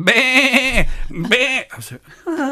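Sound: people imitating sheep bleating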